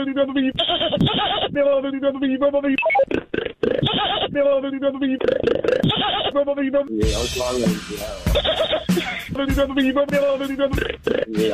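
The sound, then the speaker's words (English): A voice imitates a goat with wavering, nasal bleats, mixed with sharp tongue pops and clicks scattered throughout. The sounds are loud and continuous, with a rougher, buzzier stretch partway through. “I can make this weird popping noise with my tongue. I can do a really good goat imitation.”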